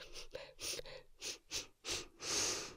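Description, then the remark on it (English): A series of wet, congested nasal sniffs, fairly loud, coming in quick bursts with short pauses, ending in a longer drawn-in snuffle. “Oh my gosh, listen to that. you went snot sniffing again.”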